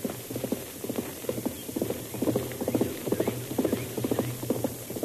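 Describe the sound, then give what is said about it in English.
A rider's horse passes, its hooves clip-clopping in a steady, brisk rhythm, clear and continuing throughout over a low background hum with no talking. “We'll stay hidden here until that rider passes.”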